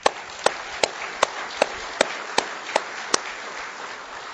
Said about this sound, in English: So amen to that. I want to give the Lord a round of applause.